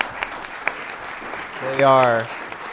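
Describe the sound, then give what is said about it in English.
An audience applauds six candidates for town public office seated up front, a steady wash of clapping with a few sharper claps standing out, and one voice lets out a loud sustained cheer partway through. “And so I'd like to ask for an early round of applause for the six people sitting up here tonight.”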